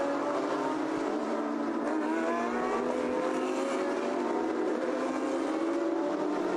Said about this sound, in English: Just seeing the final cars come round the hairpin.